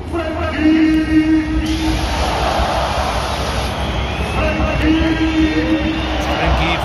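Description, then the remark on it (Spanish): A loud, dense stadium crowd at the Estadio Azulgrana during the Trofeo Gamper roars without pause, and two waves of sustained, piercing whistling from the stands rise over the din, jeering Frenkie de Jong. “Esa ovación cerrada que se llevó el centrocampista de la selección española contrastó con los pitos a Frenkie de Jong.”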